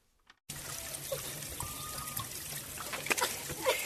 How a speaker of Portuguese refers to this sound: utilizando a água do riacho da aldeia.